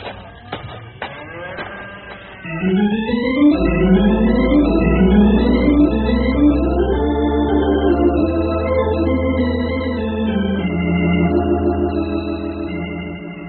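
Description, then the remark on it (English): Cattle calves in a canyon bawling in a loud, continuous chorus of overlapping drawn-out calls that slide up and down in pitch, after a brief stretch of clattering clicks at the start. “Hey, I must be going around with calves on the brain, because I keep hearing critters bawling.”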